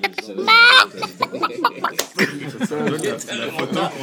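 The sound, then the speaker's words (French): A voice mimics a chicken clucking with a Québécois accent, with a sharp rising squawk near the start followed by a quick run of choppy, clucking vocal bursts, fairly loud. “C'est un poulet avec l'accent québécois.”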